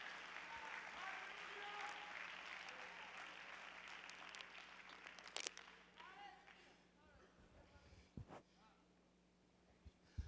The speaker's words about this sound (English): Clap your hands to the Lord and give God praise.